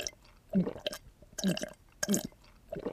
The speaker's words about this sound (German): Ach, das tat gut. Wow, du hast das ja in einem Zug leer getrunken.